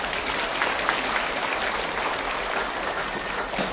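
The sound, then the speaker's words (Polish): A crowd at a children's pilgrimage gathering at the sanctuary in Tuchów applauds steadily, many hands clapping in a dense, even roar that holds at the same loudness from start to finish, with no voices heard over it. “Brawa dla nich.”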